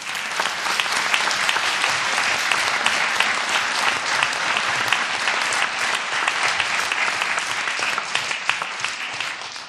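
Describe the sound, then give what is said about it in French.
Steady audience applause at a prize ceremony for the prize-winning work of a teacher and her pupils, who could not attend, fills the whole stretch, a dense crackle of many hands clapping at an even loudness without breaks, with no voices rising above it. “Madame Florence Nicolas et ses élèves n'ont pu se déplacer, ce qui ne nous empêche pas d'applaudir leur travail.”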